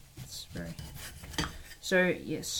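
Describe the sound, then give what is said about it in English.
A knife slices through a tomato on a cutting board, giving a few uneven taps and scrapes with short ringing clinks of metal, moderately loud and without talk. “We'll just, this doesn't say dice, it says slice, so I'll just slice it up.”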